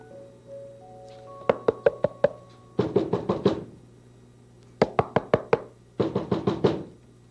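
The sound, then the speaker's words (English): Firm knocking at a door by Mr. McFeely comes in two rounds: a quick series of about five sharp raps, then a denser flurry of knocks, repeated after a short pause. Clear, with no talking. “Let's see who's at the door, all right?”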